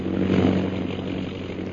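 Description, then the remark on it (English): A steady, droning airplane engine flying low, brought down as low as possible to look at a safari with elephants below, its deep buzzing hum holding an even pitch with a slight swell early on, loud and continuous with no voices over it. “Bring the plane down as low as you can.”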